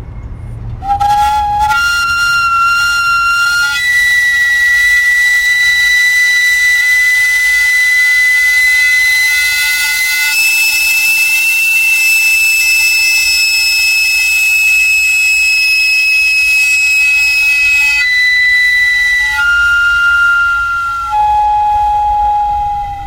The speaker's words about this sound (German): Das Pfeifen wird mit Wasserdampf erzeugt. Wenn der Guadalupe Hernandez an seinem selber gebauten Wägeli den Hahn aufmacht, steigt in einer Röhre Dampf auf. Das Signalpfeifen tönt dann so lange, bis alle Dampf entwichen ist.